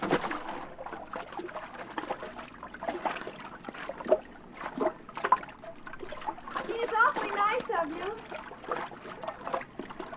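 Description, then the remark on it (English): Someone swims through water with steady, rhythmic splashes and sloshing strokes, swimming out to a boat whose motor has died just offshore, and a voice is faintly heard partway through. “I'll swim out and take a look.”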